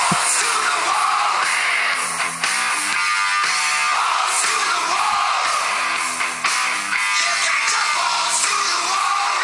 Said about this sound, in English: Hey, man, I got a new cell phone. You want to hear my ringer?